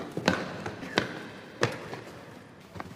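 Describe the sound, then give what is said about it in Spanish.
Hostages sitting on the floor pass small plastic water bottles to one another, with a few sharp crinkling knocks and taps spaced irregularly over a quiet background with no one speaking. “Los rehenes, sentados en el suelo, se pasan unos botellines de agua unos a otros.”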